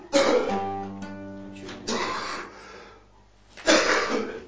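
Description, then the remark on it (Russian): A person who is ill coughs three times, each a harsh, raspy burst separated by short pauses, fairly loud, with a faint steady hum lingering between the coughs. “сейчас болен, поэтому он кашляет.”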